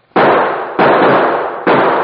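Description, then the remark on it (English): Three loud .45 pistol gunshots ring out in quick succession, each sharp crack trailing into a long, noisy echo that carries until the next shot. No voices. “Give me that .45. I'll give those birds something to think about.”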